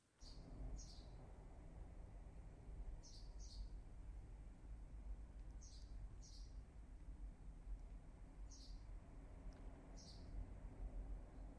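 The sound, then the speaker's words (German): Short, high bird chirps come in small pairs every few seconds, fairly faint, over a steady low outdoor rumble of background noise. “Vogelgezwitscher mit Meinungsgeflüster.”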